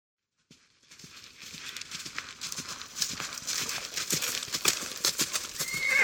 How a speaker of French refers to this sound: Le soir, le père et la fille arrivent au palais. Il est illuminé comme la première fois. Le cheval va seul directement à l'écurie.